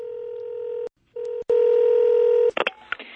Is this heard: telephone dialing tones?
yes